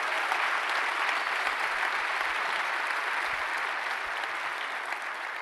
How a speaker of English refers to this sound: I mean, if for all of our married couples here, and would you just give them a round of applause, all of our married couples?